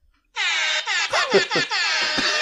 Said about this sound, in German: Na, der war Meta, weil wenn Kolle live spielt, bringt der DJ mega oft dieses Airhorn.